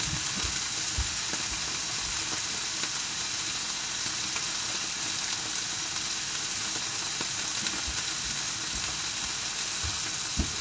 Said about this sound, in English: I'm going to get my red wine, and then we're going to get on with sizzling this steak.